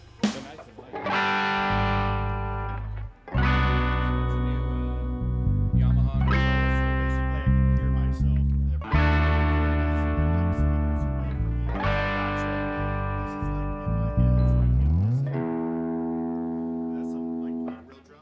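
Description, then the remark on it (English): A distorted electric guitar played through effects rings out loud, sustained chords struck about every three seconds, each one buzzing and droning before the next hits, with a low slide near the end. “play guitar.”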